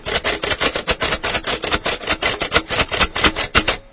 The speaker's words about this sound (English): 5 of 5. And a Perkins Brailler sound scheme. Not bad.